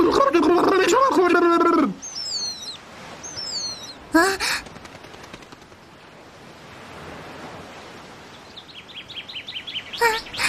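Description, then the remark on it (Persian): A bird gives two quick bursts of high, sliding chirps, then a faint run of rapid twittering later on, over a steady surf-like wash. A voice talks briefly at the start. “لوفی، این پرنده به من گفت زورو توی درد سر افتاده.”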